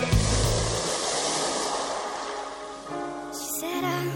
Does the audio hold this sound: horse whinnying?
no